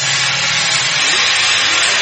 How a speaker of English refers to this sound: The deafening sound of cutting and grinding machines, punctuated by the tapping of hammers and chisels, echoes around the hills next to Sagyin Village, north of Mandalay, Myanmar.